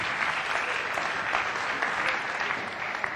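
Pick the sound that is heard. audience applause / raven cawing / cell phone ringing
audience applause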